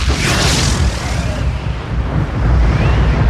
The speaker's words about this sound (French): Donc le problème, c'est que le gaz n'avait aucun moyen de sortir de la mine d'État. C'est une explosion. Et donc, il y a eu une explosion.